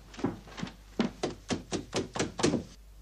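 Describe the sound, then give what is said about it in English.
Knocking on a door by someone demanding it be opened in the name of the law: two separate knocks, a short pause, then a quick, steady run of about seven more, each a dull, solid thud. No voices. “Open the door in the name of the law. Would you please, sir, answer the door?”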